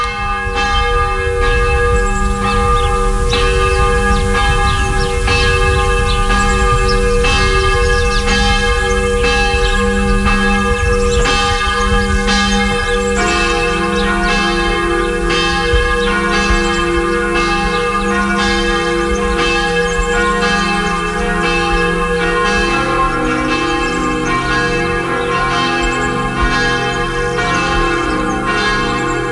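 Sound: church bells ringing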